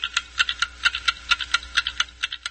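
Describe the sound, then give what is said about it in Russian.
Several antique clocks, wooden, metal and ceramic, from a home collection of more than 50 hung on the walls of a small apartment, tick at once, their crisp, bright clicks overlapping out of step into a busy, uneven patter, fairly clear over a faint low hum. “В его домашней коллекции старинных часов более 50, при том, что основную часть собранного он передал в Литовский институт этнокосмологии.”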